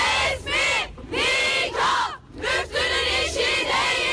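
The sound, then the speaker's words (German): A crowd of women protesters chants in unison the slogan that civil marriage is not the work of the mufti, their loud, high-pitched voices rising and falling in rhythmic bursts with brief pauses between phrases. “Das weist die Regierung zwar zurück, aber die Frauen teilen genau diese Befürchtung und rufen deshalb, die standesamtliche Trauung ist nicht die Arbeit des Mufti.”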